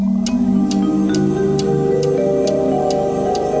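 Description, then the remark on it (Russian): A wall clock ticks steadily, about two clicks per second, crisp, in a dark, silent room where children sleep, over a soft sustained musical background with no voices. “В темной комнате стояла тишина, только стенные часы отстукивали тик-так, тик-так, дотрещал сверчок за очагом.”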